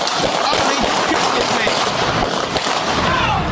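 A rapid volley of loud gunshots, several sharp cracks fired in quick succession, ringing out over a steady wash of harsh, hissing noise.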